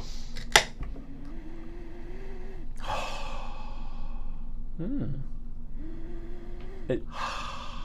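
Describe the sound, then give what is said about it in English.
A bottle cap pops off a bottle of Pie Hole Porter beer with a single sharp click. Breathy gasps and sniffing follow over a steady low hum. “It's time to pop that top.”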